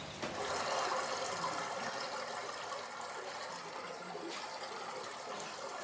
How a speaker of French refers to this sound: La rivière produit un murmure continue en glissant sur les pierres et les galets. Son eau vive façonne le paysage au fil du temps.